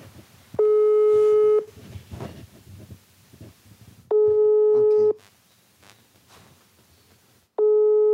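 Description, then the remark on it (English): A phone ringing tone sounds three times, each steady electronic burst lasting about a second with pauses of a few seconds between, over a low murmur of background voices, as a call is placed to a 23-year-old Honduran migrant. “I'm going to call him right now.”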